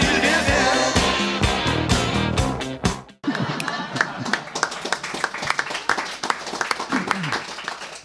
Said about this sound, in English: I feel bad taking that applause. I did not write that. I barely read that.